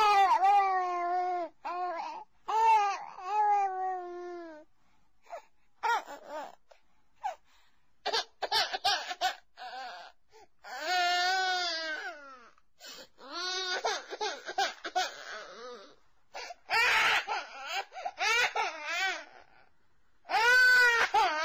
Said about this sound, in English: Which sound is more disturbing? The crying child? Or the total absence of footsteps from anyone coming to help?